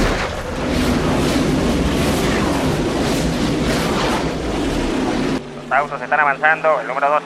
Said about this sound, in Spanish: Autos están avanzando, el número 2 está tomando la punta.